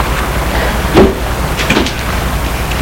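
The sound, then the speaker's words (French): A car door clunks open and then shuts with a solid thud as a woman gets out of her car, stopped in a street, two short knocks about a second apart over a steady low background rumble, with no talking. “Elle sort de voiture”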